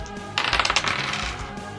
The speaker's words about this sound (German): Würfel auf Nahkampf, bitte.